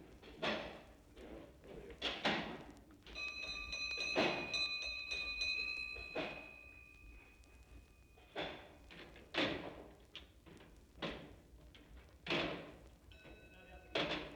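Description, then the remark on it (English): A signal box bell rings with a bright, sustained metallic tone, amid heavy mechanical clunks and thuds as the signalman pulls off the levers to pull down the signals, in an irregular rhythm. It is at Reading just before midnight, signalling in the last Great Western Railway train to pass through Reading. “Well, there goes the bell for our train, and you heard the signalman pulling off the levers, which will pull down the signals for this last Great Western train.”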